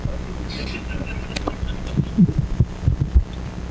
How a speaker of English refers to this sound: And the printer is going right ahead.